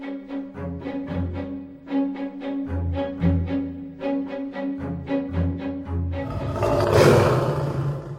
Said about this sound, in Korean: 그때 숲속에서 무서운 동물 울음소리가 들리더니 갑자기 커다란 사자가 길 위로 튀어나왔다.